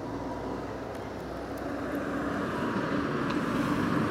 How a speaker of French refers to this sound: Me demande aussi pourquoi il y a tant de voitures et de camions qui passent en plein milieu de ce magnifique bourg qu'est Becherel. Ça n'arrête pas.